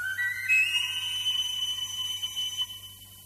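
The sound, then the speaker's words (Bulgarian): A shrill whistle is blown in one long blast, sliding up in pitch and then holding a steady piercing tone for about three seconds before fading. No one speaks. “Чакай само да си извадя свирката.”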